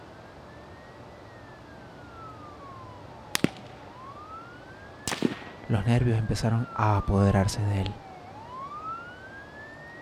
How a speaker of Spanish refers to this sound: A lo lejos, se escuchan las sirenas de la policía, acompañadas de estallidos de armas que lentamente comenzaban a acercarse.